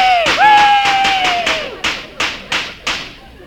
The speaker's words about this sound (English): Look out for these firecrackers.